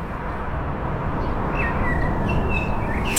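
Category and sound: bird, blackbird singing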